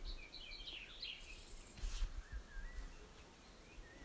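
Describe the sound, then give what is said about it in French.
Faint birds chirp and trill in scattered bursts, busiest early on, over a soft outdoor hush with a brief breathy rush partway through. No one speaks. “Et doucement, amenez votre attention au chant des oiseaux qui chantent quelque part dans le monde.”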